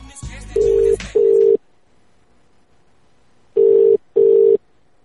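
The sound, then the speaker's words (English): A phone line rings out on the other end on a second attempt to call the number, with two double rings, each pair of short steady mid-pitched tones separated by a long silent pause, with a brief burst of noise under the first pair. “Now it's the second time we're trying to call.”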